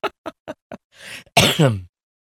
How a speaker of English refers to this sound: And I'm sorry for coughing in your ear.